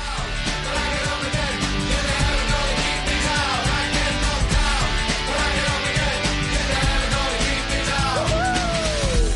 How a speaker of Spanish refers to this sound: Qué buen rollito de canción, por favor.